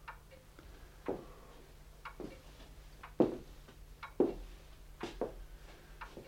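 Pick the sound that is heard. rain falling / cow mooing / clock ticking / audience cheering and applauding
clock ticking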